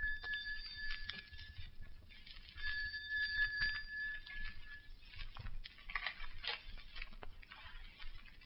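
A doorbell at a house rings twice at night, each a sustained bright buzzing ring lasting over a second with a short pause between, followed by scattered clicks and rustling.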